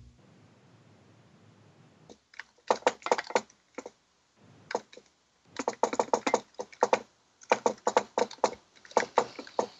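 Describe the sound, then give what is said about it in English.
Typing on a computer keyboard set in an awkward position, right up close to a microphone: bursts of sharp, rapid key clicks in uneven clusters with brief pauses between, loud and near, with no voices. “Combination typing and Morse code.”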